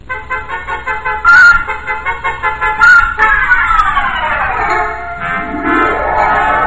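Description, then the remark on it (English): A car pulls away noisily and drives around a corner: two short horn toots, then a loud, buzzing engine whose pitch drags downward as it drives off, with no talking. “I backed out of that wind tunnel, got in my car, and drove noisily around the corner.”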